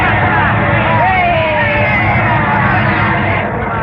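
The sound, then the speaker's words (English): A baseball stadium crowd roars in a loud, unbroken wash of cheering and shouting after a clean single through shortstop scores a run, with a few rising whistles or yells poking through the steady din for about four seconds. “And listen to that crowd.”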